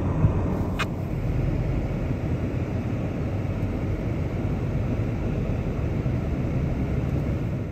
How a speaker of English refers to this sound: Oh, there goes the press plane.